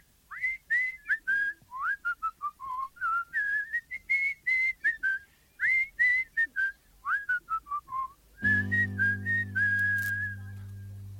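A clear whistled melody plays in quick, bouncy phrases of short notes; near the end a steady low instrumental backing joins beneath the continuing whistle.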